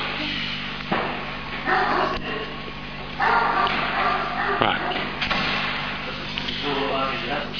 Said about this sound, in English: Right. Okay, so it's nice to know that the dogs are barking at us. That's good, if that's the case.